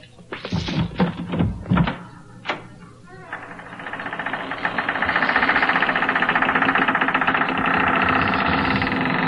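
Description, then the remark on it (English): A house door is unlocked and opened: a quick series of heavy metallic clunks and a click, then a long, loud, rattling grind that holds steady for several seconds. “Let me unlock the door.”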